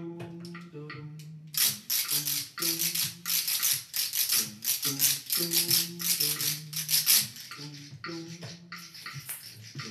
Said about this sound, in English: And there were some squirrels that found some old rattly seed pods on the forest floor.